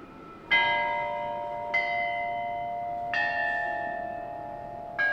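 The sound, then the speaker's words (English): Musicians practice on a set of ancient bronze bells, arranged small to large, that were buried with an emperor and had not made music for over 2,000 years. The bells ring out a slow melody, four clear struck tones spaced about a second and a half apart, each with long shimmering overtones that linger and overlap. No voices are heard. “They're practicing music on a series of bronze bells.”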